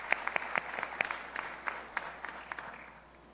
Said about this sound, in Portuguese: Vamos aplaudi-los, em nome de Jesus.